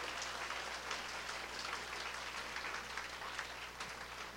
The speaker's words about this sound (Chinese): 给耶稣一个热烈掌声，谢谢。